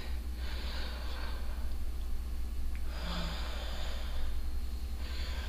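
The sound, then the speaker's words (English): Slow, deep breaths drawn in audibly, a long airy inhale followed by another, hissy and fairly soft over a low steady hum, with no talking. “I now begin to breathe you in.”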